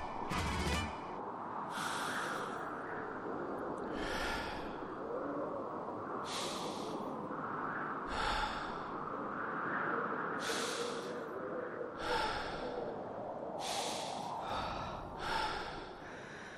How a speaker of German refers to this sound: Das Eröffnungsstück… beginnt mit Windgeräuschen und rhythmischem Atmen.